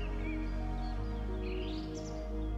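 Birds flying overhead among pine trees sing in soft, warbling chirps above a steady, humming low drone, the calls rising and falling with no talking.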